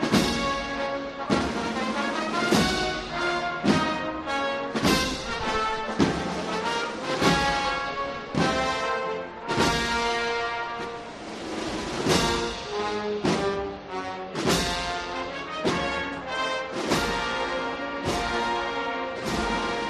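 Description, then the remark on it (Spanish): A procession band plays a sweet, flowing melody, with sustained brass and woodwind lines over steady drum and cymbal strikes that mark a slow, regular beat. No one speaks. The music accompanies the lit pallium float (paso de palio) of Guadalupe as it advances slowly through Campana amid a respectful silence. “Poco a poco el palio ahora sí avanzando, completamente encendido, tanto la candelería, la flor rizada, los candelabros de guardabrisa, esta dulce melodía que acompaña ahora al paso de palio y que ha provocado un silencio muy respetuoso en la campana,”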